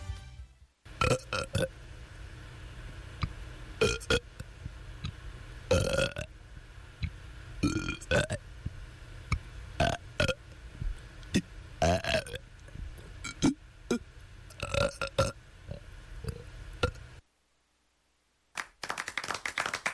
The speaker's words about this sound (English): This is WONY Oneonta here to present the 33rd Best Burp Performance from Otsego County's 19th Biannual Burp Review, 1994.